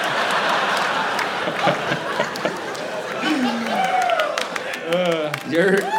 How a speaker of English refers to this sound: And your friends are starting the applause.